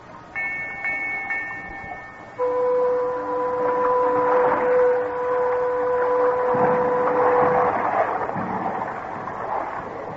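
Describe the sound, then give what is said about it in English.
A steamboat whistle sounds the sailing signal as the boat sets off on the river: a brief higher toot, then a long, steady, deep blast lasting several seconds, loud over a continuous rumbling, churning background with no one talking. “I gotta give the sailing signal.”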